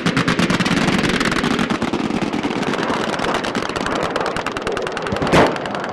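anti-aircraft gunfire

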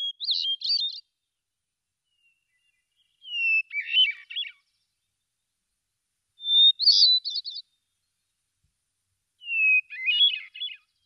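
hermit thrush song

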